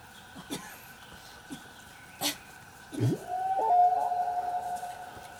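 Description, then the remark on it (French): A human voice imitates a whale call, one long, rising, tonal moan that swells and slowly fades, preceded by a few faint clicks and breaths. “Mais moi, après, tu sais, 20-25 minutes, j'ai chanté, j'ai baleinophoné.”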